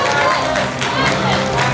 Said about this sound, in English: Huge round of applause for Fire Emblem Fates cosplay!